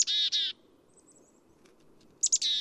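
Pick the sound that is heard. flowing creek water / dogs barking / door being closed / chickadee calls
chickadee calls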